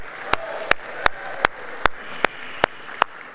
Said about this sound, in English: Right, well, we can clap it up for that.